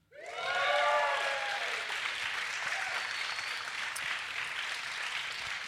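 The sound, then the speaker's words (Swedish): A live audience in a grand hall at Stadshallen in Lund, during the Lund Comedy Festival, breaks into sustained, dense applause, with loud rising whoops and cheers over the first second that settle into steady clapping to the end. “Kan vi få höra publiken?”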